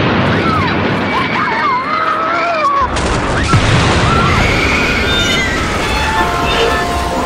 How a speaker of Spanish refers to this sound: Eran las 7 y 37 de la mañana cuando se produjo la primera explosión en Atocha.